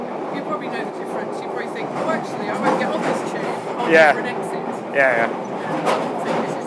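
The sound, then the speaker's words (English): Underground railway station ambience at Oxford Circus: a steady wash of crowd murmur and low train rumble, with two brief high metallic squeals rising above the din partway through. “I can't remember which exit comes out where at all in this station.”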